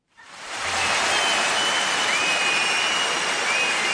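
An audience breaks into dense, steady applause for first-grade children, starting abruptly and holding at a loud, even level for several seconds, a continuous wash of many hands clapping with no voices.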